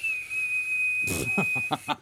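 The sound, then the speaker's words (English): A thin, wavering whistle held on one high note for nearly two seconds, then breaking into breathy puffs of air, a weak, faltering human attempt at a birdlike whistle. “Can you make a noise like a bird? No. I was hoping you were going to like whistle.”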